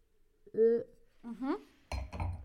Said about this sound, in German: Ich mache dich jetzt mal darauf aufmerksam, dass ich jetzt noch mit dir nochmal anstoßen möchte.